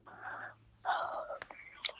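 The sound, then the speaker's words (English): A soft, breathy yawn: two airy, drawn-out exhalations about half a second each, with a faint whispery quality and a few small clicks and sniffs at the end. “I heard that yawn, noting it.”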